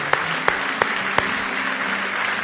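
An audience claps together in praise of the Lord one morning, in a dense, steady wash of applause, with a few sharper, louder claps standing out at irregular intervals over the crowd's continuous patter.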